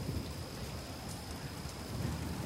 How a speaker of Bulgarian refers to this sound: Нощте. Грамотевици. Дъждът не спира да вали.